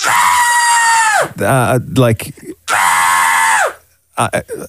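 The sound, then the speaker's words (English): A person lets out two long, loud screams, each held steady before trailing off, with brief bursts of talk in between and a few short vocal sounds at the end. “Well, clearly you're screaming, but why would...”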